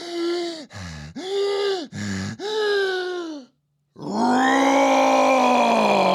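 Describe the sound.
A voice imitates a roar: a few short, strained growling bursts, a brief pause, then one long, loud, sustained roar that holds steady to the end.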